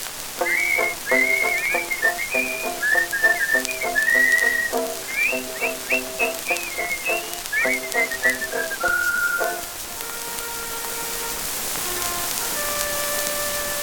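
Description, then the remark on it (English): A lively tune is whistled in quick, bouncing notes for about ten seconds, then gives way to a few long, steady held tones over a soft hiss, with no talking. “And now he goes along like a monkey in the pit, and this is how he whistles that tune.”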